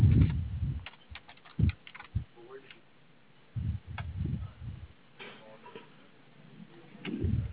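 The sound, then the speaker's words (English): Typing on a computer keyboard while finishing an email, in quick clustered bursts of clicks separated by short pauses, fairly quiet, with some low muffled thumps underneath. “I'm just finishing up an email.”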